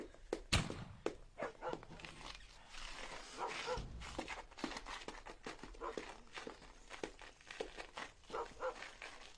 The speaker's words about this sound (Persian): این گوشه باب دیوارش خرابه، سگا حمله کردن، قصدشون اسبان، اینا هم گشنن. این سگ و گرگای گشنه با تیراندازی دور نمیشن.